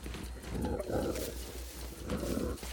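A mountain lion snarls and growls in two harsh, rumbling bursts, fairly loud, with gnashing of teeth and a steady low hum underneath and no talking, as it drags a woman off a trail.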